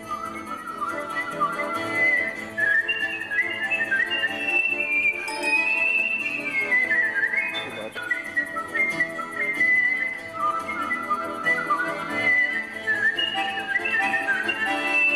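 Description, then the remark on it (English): Skilled, sustained whistling carries a flowing melody with quick trills and ornaments, loud, over a soft instrumental backing throughout, a polished solo performance at the World Whistling Championship, from a YouTube video. “Ian found a YouTube video of the World Whistling Championship, and my God, it is...”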